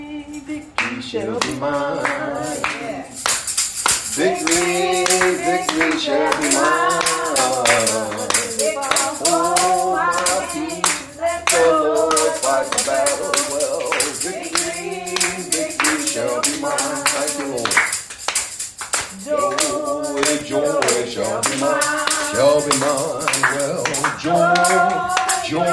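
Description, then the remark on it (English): An audience claps their hands in a steady, continuous rhythm, loud, while voices sing along throughout. “Got to clap.”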